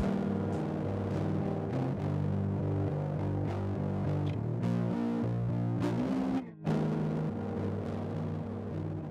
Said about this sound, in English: Yeah, so that electric guitar is still actually in the song. I copied and pasted it over to the very end of the song, and then I also put a fuzz distortion effect.